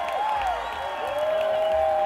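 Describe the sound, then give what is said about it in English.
A crowd in Pittsburgh applauds a band steadily, a dense wash of clapping with sustained whistles rising over it, loud and continuous throughout. “Let's have another round of applause for …, man.”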